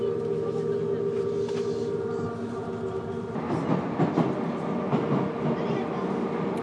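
A metro train rumbles steadily along the rails, a dense low roar with a sustained tonal hum, growing rougher and more clattery partway through as the car rattles over the track.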